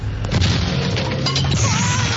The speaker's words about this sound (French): Poussez-vous, j'enfonce la porte.